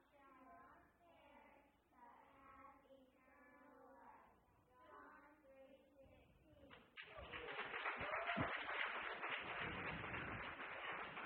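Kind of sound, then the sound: crowd, audience applauding children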